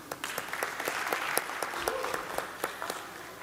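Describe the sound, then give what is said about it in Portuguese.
An audience at a municipal legislative session applauds steadily for the mayor and festival royalty, a dense wash of clapping with sharp individual claps standing out throughout, moderately loud and sustained without voices on top. “Vamos aplaudir?”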